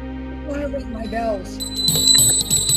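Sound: bells ringing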